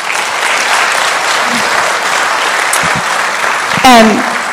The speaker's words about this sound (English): And so I want to give them a round of applause to thank them.